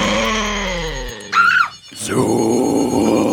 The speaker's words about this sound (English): Hearing a growling noise from the fridge, Dana opens the door. Suddenly, a strange, demonized dog jumps out in front of her.